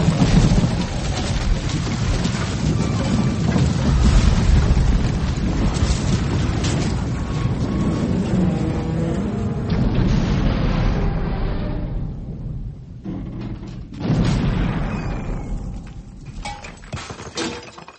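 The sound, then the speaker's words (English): A castle collapses in a loud, sustained roar of crashing and rumbling, debris clattering and shattering throughout, briefly dipping then surging again before gradually fading. No one speaks. “I told you it would collapse.”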